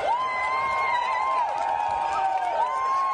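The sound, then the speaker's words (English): A woman lets out long, high-pitched "woo" shouts, her voice sliding up and down between bursts, over the steady roar of an excited crowd. “The Lady Woo-er. The Woo-er girl, yeah.”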